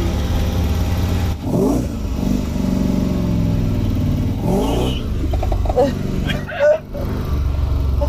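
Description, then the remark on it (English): A loud car engine revs hard and accelerates past, its pitch climbing in two strong surges over a steady engine rumble, with faint voices in the background. “Here's another car. There you see. Ah, coming.”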